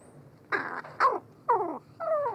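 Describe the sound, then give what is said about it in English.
A crow's soft, close-range courtship song: four short throaty calls in a loose sequence, mixing gurgling coos with rough growl-like notes, with no talking. “Instead, they sing softly and at close range during courtship, with a rich mix of soft cooing, rattles, growls, bowing movements, and mutual nuzzling.”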